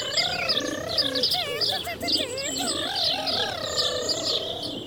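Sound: birds singing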